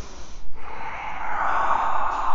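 A single sneeze: a brief breathy intake, a short pause, then a loud, noisy, hissing burst of air that trails off over a couple of seconds. No one speaks.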